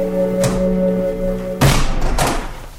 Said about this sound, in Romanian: Păzea, băieți, după manieră, ăsta-i dobitocul a trântit ușa.